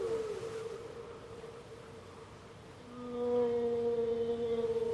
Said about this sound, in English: The mist was darkening as evening crept over the quiet ocean. A very long way off, both men heard the mournful sound of whale song, eerie in the isolation.